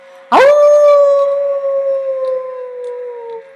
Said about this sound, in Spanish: Aullo bajo la luna llena contigo, pues los tiempos de silencios y mordazas están llegando a su fin.